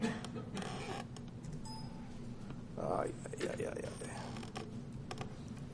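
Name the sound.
typing on a keyboard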